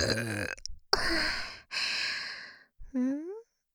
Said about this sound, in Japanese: なんですか？連続ゲップ、エッチすぎますか？でも、これ待ってたんじゃないですか？耳元からの連続ゲップ